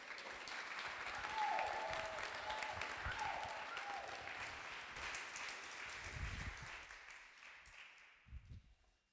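A crowd claps in a dense, steady burst of applause for several seconds, with a short high whistle early on, before the clapping thins out and fades to quiet.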